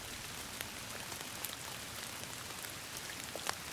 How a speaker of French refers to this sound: Le dernier jour, il pleut. De grosses gouttes de pluie fouettées par le vent.